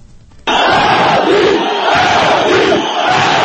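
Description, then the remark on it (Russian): A large protest crowd on Rustaveli Avenue in Tbilisi, Georgia, during the 2003 Rose Revolution bursts into loud, sustained chanting of a demand after a brief quiet start, many voices shouting together with short dips between phrases. “Это требование скандировали в течение нескольких недель на центральном проспекте Руставели 6 лет назад.”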